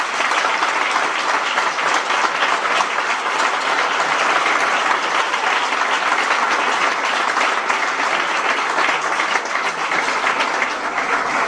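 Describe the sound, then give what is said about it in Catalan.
Sustained applause from a large audience, a dense, steady roar of many hands clapping at an even loudness for the whole stretch, with no voices standing out. It is the first applause of a town festa. “Jo crec que el primer aplaudiment de la festa ha de ser per nosaltres.”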